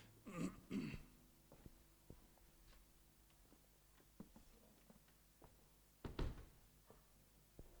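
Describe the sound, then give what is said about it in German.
A door shuts with a single solid thud partway through, preceded by a throat-clearing sound and a few faint knocks and taps in otherwise quiet surroundings. “Zwischendrin tun wir lüften, gell? Ihr kennt das. Okay. Und es hört die Tür zu.”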